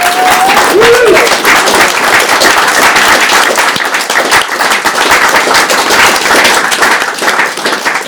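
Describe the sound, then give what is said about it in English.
An audience applauds loudly and steadily for about eight seconds, a dense wash of many hands clapping, with a brief rising cheer or whistle near the start. “And most of all, please, another big round of applause”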